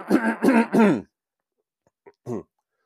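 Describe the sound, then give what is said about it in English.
A person coughs three times in quick, close succession, loud and harsh, then falls quiet before a short, softer throat-clearing sound follows. “Sorry, I'm going to cough.”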